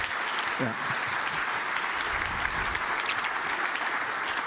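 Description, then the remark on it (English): An audience applauds steadily to welcome a speaker with years of experience in politics coming up to give a talk, a dense, even wash of many hands clapping with no pauses for the full few seconds, and a faint voice briefly audible underneath near the start. “And thus, a big applause”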